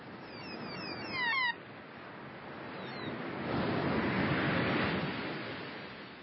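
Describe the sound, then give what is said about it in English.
Seabirds let out a quick burst of high, chirping calls over steady, broad ocean surf, then fall silent while the waves keep washing and swell louder toward the end. “There's the birds. Can't beat a good bird.”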